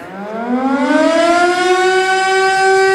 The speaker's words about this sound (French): Oui, vous l'avez reconnu, la sirène d'alerte, celle qui retentit tous les premiers mercredis du mois en guise de test.